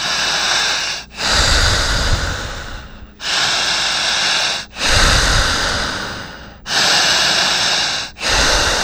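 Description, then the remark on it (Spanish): Loud, forceful breaths pushed rapidly in and out only through the mouth during a breathing exercise, a steady, repetitive rasping rush that pauses briefly every second or two, with no talking. “Potente. Jadeante. Insistente, repetitiva, solamente por la boca.”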